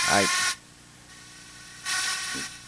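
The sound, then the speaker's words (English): Fishing reel drag buzzes out in two raspy, ratcheting bursts, a loud half-second whir, a pause of over a second, then a longer grinding run. “Let you hear a little drag music.”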